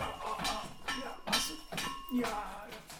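A dog named Tino thumps its tail against a desk four or five times in a loose, uneven rhythm, each knock fairly loud with a light rattle of something on the tabletop.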